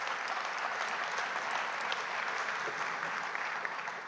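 A room full of people applauds steadily, a dense wash of clapping hands that stays loud and even for several seconds before easing slightly at the end.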